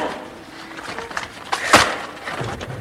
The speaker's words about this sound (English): Now, where's that crowbar he gave us to open the door with because he's lost the key? Here it is. Just wedge it in the door. Now.